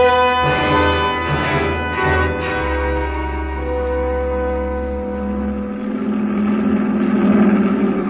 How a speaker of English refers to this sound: The first truck of the Nazi convoy roared around the curve and passed. 30 seconds later, another one.